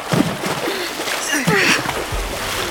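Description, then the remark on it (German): Turquoise water splashes loudly as two characters let themselves drop into it, with a couple of heavier plunges amid continuous sloshing and spray, with faint indistinct voices underneath. “Das türkisfarbene Wasser spritzte, als sich Raya und Hari ins Wasser fallen ließen”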